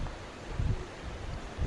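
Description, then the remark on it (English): Sea waves wash softly onto the shore at Prabhascheta, where three holy rivers meet the sea, a steady hiss with low swells surging and fading a few times. Quiet, with no voices. “We now hear the beautiful song of the sea.”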